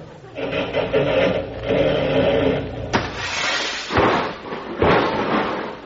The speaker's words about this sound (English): Oh, Miss Canova, you drove right through the showroom window.